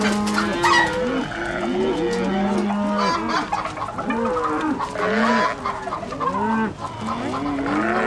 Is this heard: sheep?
yes